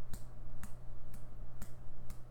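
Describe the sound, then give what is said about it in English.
Five crisp slaps of skin against skin, a penis slapped against buttocks, evenly spaced about half a second apart, each a short sharp smack over a steady low background hum, with no voices. “Slapping my cock against your ass.”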